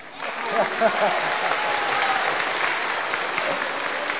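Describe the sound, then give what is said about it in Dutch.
An audience in a church applauds a choir before it sings, a dense wash of clapping that holds at an even level throughout, with a few voices faintly audible underneath at the start. “de hergezangetjes gaan altijd beter zingen als ze vooraf een applaus krijgen.”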